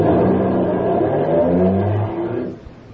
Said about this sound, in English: It's still there when he joins me at the airport parking lot and we get in a car to drive to Los Angeles.